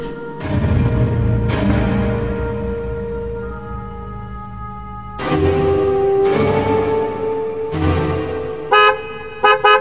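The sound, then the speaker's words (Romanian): A car horn from a waiting car honks repeatedly and loudly, with long sustained blasts separated by short gaps, ending in a couple of quick short toots. “Aștepte la noi mașina.”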